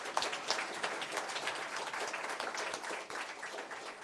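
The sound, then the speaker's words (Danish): A crowd applauds steadily, many hands clapping in a dense, crackling wash that holds at an even, fairly loud level throughout with no voices standing out. “Ja, men skal vi ikke lige give en rigtig god klapper nu her?”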